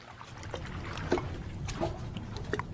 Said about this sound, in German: After the demonstration, in the afternoon, I found myself in the middle of a lake, far away from the shore. No one was there on the shore. Silence had fallen upon the lake, and the only thing you could hear was the pleasant sound of water.